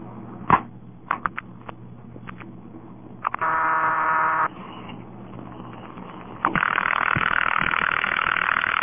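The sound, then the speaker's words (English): A few sharp clicks, then a loud buzzing telephone ringing tone lasting about a second, a brief pause, and the ringing tone starting again and continuing steadily to the end, heard after a number is dialed at the right speed. “That ringing noise is what it's supposed to give when you get the dial at the right speed.”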